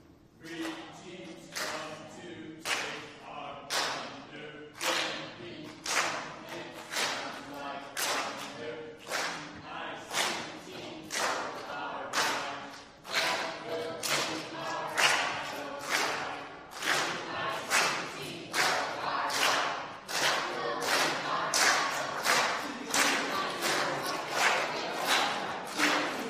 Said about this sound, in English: But let's hear from the green team. Let's see what they have. Give us one good last cheer. Here we go, green team.